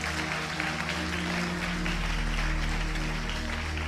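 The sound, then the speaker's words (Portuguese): Steady, dense clapping from a crowd fills the whole stretch, a continuous loud wash of applause with a low hum beneath and no pause. “Não, aplaude direito, ainda não acabou não.”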